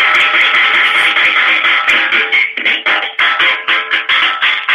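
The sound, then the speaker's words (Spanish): A rapid, continuous drum roll beaten on a soup tureen, a loud, bright clattering that rattles steadily for several seconds, with no talking over it. “¿Puede hacer usted una especie de redoble de batería con la sopera para ver cómo quedaría?”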